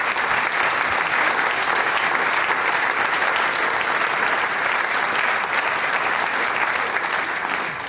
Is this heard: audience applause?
yes